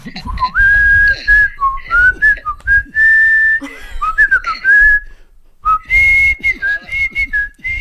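A curió seed finch whistles a melodic tune in clear, sustained mid-high phrases separated by short pauses, over a low rumbling background.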